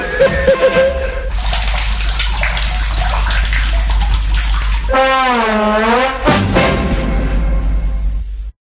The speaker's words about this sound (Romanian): Și apa curge. Și curge. Și curge și săpunul.